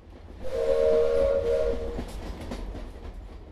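A train whistle blows a steady, fairly loud tone for over a second over the low rumble and rattle of a moving train nearing İzmit, Turkey, heading toward Eskişehir and Ankara; the train noise continues after the whistle fades.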